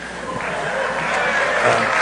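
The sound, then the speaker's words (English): A crowd applauding, a dense, steady wash of clapping that holds at a fairly loud level for about two seconds, swelling slightly toward the end, with no voices over it. “A cheap applause.”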